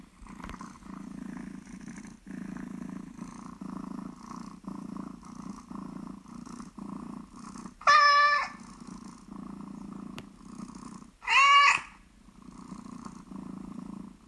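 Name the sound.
cat purring and meowing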